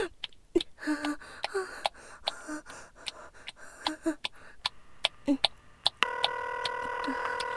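A string of short key-press beeps as a phone number is dialed, followed by a steady, continuous ringing tone from the line as the call is about to connect, clear, with faint breathing in the background.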